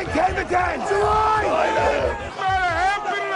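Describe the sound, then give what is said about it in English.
A dense crowd of floor brokers shouting over one another in open outcry at the New York Board of Trade, dealing in coffee futures, from the documentary The Pit; loud overlapping calls rising and falling in pitch with constant babble underneath and no pauses. “These guys were dealing in coffee futures, and they used to do something called open outcry.”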